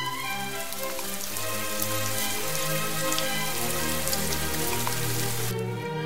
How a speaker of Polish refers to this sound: I wtedy zaczął padać deszcz.